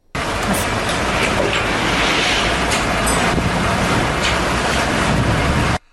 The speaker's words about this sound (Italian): E questo rumore è quello dei camion di aiuti che ci riportano a Gaza, dove da 11 settimane c'è il blocco.